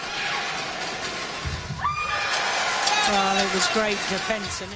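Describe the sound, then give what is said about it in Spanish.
A tennis player shouts loudly with each hit, a string of sharp, strained vocal cries, one rising in pitch, then several shorter yells in quick succession over a noisy background. “Tus gritos es una cuestión a veces controvertida, escucha.”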